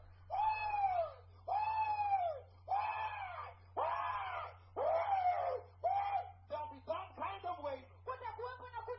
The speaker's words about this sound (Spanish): Si escucharon cómo va a ser la clase de tormento, por siempre y para siempre, va a haber gritos.